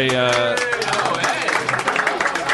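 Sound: applause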